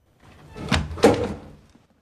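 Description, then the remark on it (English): A wooden cupboard door is jerked open with a sudden yank on its handle, giving two quick, sharp knocks and a brief rattle that fades within a second, fairly loud with no voices. “Grasping the door handle slowly, he opens the door with a sudden yank.”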